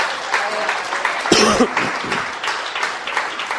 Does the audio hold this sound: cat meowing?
no